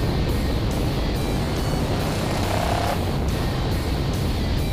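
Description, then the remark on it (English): The engine of an Interceptor muscle car runs steadily, a loud, continuous low rumble with a rough, airy roar layered on top and no pauses or voices. “The Interceptor always turns heads, even on the highway.”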